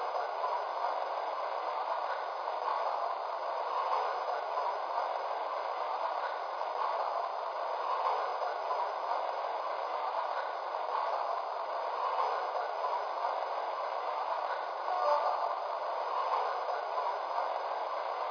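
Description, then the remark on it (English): Passenger train number 11 departing the Wilkes-Barre station on track one makes a steady, continuous rushing rumble that fills the whole stretch at an even, moderate loudness, with no voices and no distinct separate noises. “Now departing from Wilkes-Barre on track one, train number 11, the Star.”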